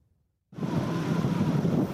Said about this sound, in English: There's no race on land or sea that is weirder or wilder than the race to Alaska. The tides run really fast, the wind howls.